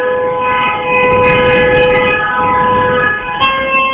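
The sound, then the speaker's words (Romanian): A long, sustained horn blares continuously with steady tonal layers, loud and unbroken for several seconds, dipping briefly near the end before resuming, over a rumbling crowd-like background. “e un claxon foarte, foarte subțirel pe aici, nu știu de unde vine”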